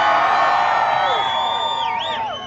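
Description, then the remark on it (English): A crowd of a few hundred admirers of Palin cheers steadily outside a mall in Michigan as she addresses them after arriving in her Going Rogue bus, with several rising and falling whoops and yells standing out above the continuous, fairly loud roar. “When Palin arrived in her Going Rogue bus that's painted to look like her book cover, she addressed a crowd of a few hundred admirers waiting outside of the mall here.”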